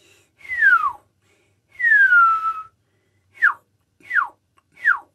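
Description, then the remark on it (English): A person whistles in imitation of a wild hill myna's whistles: two long, bright downward-sliding whistles, then three quick, short descending whistle notes in an even rhythm, clear with no talking. “But in the field, he's got an amazing repertoire of whistles.”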